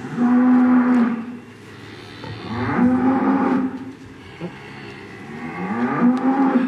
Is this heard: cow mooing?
yes